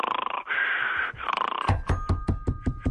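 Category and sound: vocal imitation, person imitating snoring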